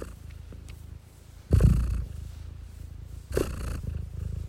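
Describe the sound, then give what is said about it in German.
A cat, Koschka, one of the pets of the Funk Instagram editorial team, purrs with a steady low rumble, swelling into two louder breathy surges about two seconds apart. No one speaks. “Und dazu gehört auch die Katze Koschka. Die hören wir jetzt.”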